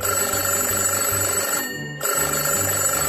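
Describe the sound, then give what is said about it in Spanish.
A telephone bell rings loudly, a continuous metallic trill broken by one short pause before it starts ringing again. No one speaks. “¡El teléfono!”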